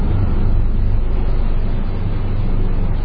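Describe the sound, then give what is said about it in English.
A helicopter flying overhead, heard as a loud, steady, low droning rumble that holds constant for about three seconds, with no voices present. “I always get concerned when those helicopters go over.”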